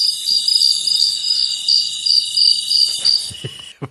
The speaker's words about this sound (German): Bahamas, was ist das im Hintergrund? Sehr laute Grillen. Die sind auch gerade in den Bahamas.